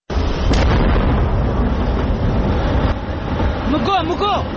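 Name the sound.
gunpowder blast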